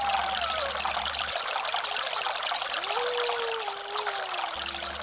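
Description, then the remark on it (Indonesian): Water of a long, wide river flows steadily, a loud, continuous rushing and babbling with no pauses, while faint high tones glide softly in the background. “Satu persatu menyeberangi sungai yang panjang dan lebar.”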